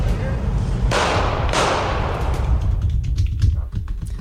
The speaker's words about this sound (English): That last bit with the gunshots was actually a video from one of the Black Lives Matter protests of a truck driving by, had like Trump flags or something on it, being shot at, obviously.